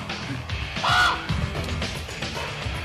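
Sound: crow cawing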